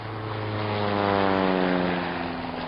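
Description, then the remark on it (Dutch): A seaplane's propeller engine drones steadily overhead, a loud, even hum with layered harmonic tones that swells slightly in the middle and holds throughout, with no voices. “Een watervliegtuig, kaptein. Die zien we niet vaak meer, hè?”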